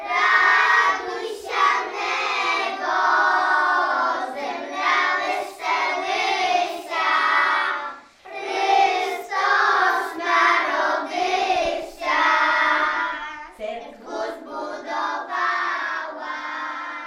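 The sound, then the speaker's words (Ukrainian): A group of kindergarten children from the Lisova Polyana kindergarten in Bilsk sing a Christmas carol together in high, bright unison voices, loud and steady, phrase after phrase with only short breaths between lines. “Ось так колядують діти з садочка Лісова Поляна в Більську”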